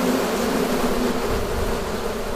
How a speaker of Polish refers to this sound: Pszczoły to nie tylko sympatyczne owady, ale też spore korzyści dla przyrody. W tym przypadku aż ze 170 uli wylatują robotnice, które zapylają uprawy i zwiększają plony.